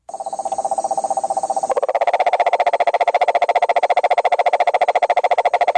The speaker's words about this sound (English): And that right there is the cane toad, the sound of the male cane toad. Apparently the females don't trill like that.